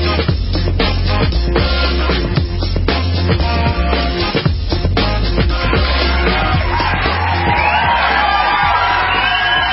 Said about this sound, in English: Start off with the applause, there's no question about it. And the applause is for the incredible football that many of us watched this past NFL weekend, AFC and NFC championship game.